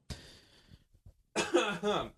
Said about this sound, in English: We're both coughing today. I know.